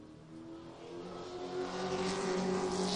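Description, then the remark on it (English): The loud, sustained engine of the number 18 race car drones steadily on a timed qualifying lap of a racetrack, lap time 17.321, its pitch and intensity rising slightly as it holds speed, with no talking. “Lap number one in the book, 17.321 for the 18 car.”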